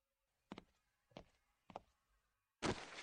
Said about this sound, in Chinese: 啊，先生，没事吧？果然还是摔倒了。